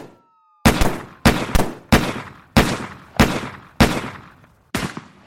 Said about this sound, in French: 11h24, premiers échanges de coups de feu entre les policiers et les deux adolescents.